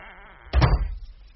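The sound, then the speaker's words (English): A door at the Thornfield Lights premises swings shut with a solid, low thud as someone enters, a quick double impact followed by a short fading rattle, against an otherwise quiet background hum. “I have just entered the premises and I'm now closing the door.”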